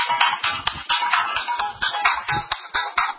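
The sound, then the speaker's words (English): A cell phone ringing with a busy electronic ringtone, a steady run of quick rhythmic pulses repeating throughout at moderate loudness, with no one speaking over it. “I was going to tell people to turn their cell phones off.”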